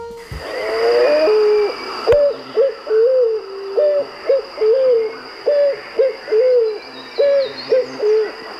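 A picazuro pigeon's call: a series of about a dozen low, hollow cooing hoots in a steady, even rhythm, clear, with no voices and a faint constant high hiss behind.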